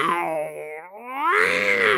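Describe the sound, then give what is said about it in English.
A voice imitates a panther's growl: a drawn-out, moaning snarl that dips in pitch, then swells into a louder, rougher second roar lasting about two seconds. “Big old panther noise. Insert there, editor.”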